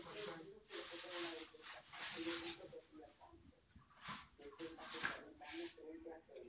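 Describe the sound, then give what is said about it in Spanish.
Someone draws on a frozen sandpaper surface, making repeated scratchy strokes across the rough, hard surface in uneven bursts, with soft voices talking underneath. “Se puede dibujar en el esta porque está congelada. Esta lija, sí.”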